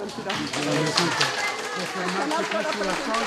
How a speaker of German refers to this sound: Beifall für Benedikt. Nur wenige Meter von den Gleisen des römischen Bahnhofs entfernt trifft der Papst auf Menschen, die sonst nicht so sehr im Mittelpunkt stehen.